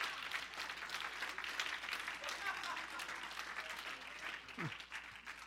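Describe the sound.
Many hands clap steadily together in a gathered crowd, a dense, continuous patter of applause that holds for several seconds at moderate loudness, with faint voices mixed underneath.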